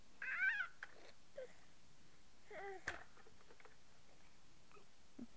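A cat meows twice, a short plaintive call near the start and a softer, drawn-out one a couple of seconds later, with faint scattered clicks in otherwise quiet surroundings.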